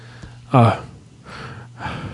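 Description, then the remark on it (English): A person imitates the heavy breathing of Mr. Furley, Don Knotts's character on Three's Company: a loud, voiced gasping breath, then two softer, raspy, breathy exhales, with a low steady hum underneath. “Just a lot of breathing like that, I bet.”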